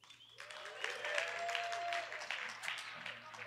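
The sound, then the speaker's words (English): A crowd cheers and claps loudly for a few seconds in answer to being asked whether the Dolphins will win today, a dense wash of whoops, shouts and applause that swells quickly and stays steady before easing slightly at the end. “A resounding affirmation. Yes, you can just hear that.”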